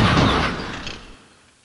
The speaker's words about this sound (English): Thomas wasn't going fast. When he saw the lorry, he braked hard. But he couldn't stop and hit the lorry with a loud crash.